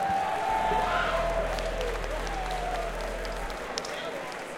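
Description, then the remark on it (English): Audience applause fills the whole stretch with a dense, steady wash of clapping. A low hum runs underneath, and a faint gliding tone drifts through it. “Let's give them a really nice round of applause for having us all here for such a great time.”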